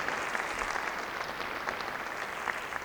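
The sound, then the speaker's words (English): An audience claps for the artwork of Anke Blackburn, an artist teaching at Augusta, steadily in a dense, continuous wash of applause, many hands overlapping into an even, crackling roar that holds at a moderate level for a few seconds. “I think we should have a nice warm round of applause for that wonderful work.”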